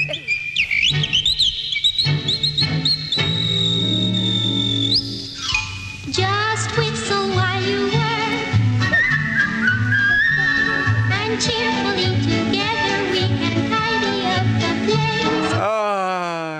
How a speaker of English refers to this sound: Can you whistle? Whistling does make you happy, doesn't it?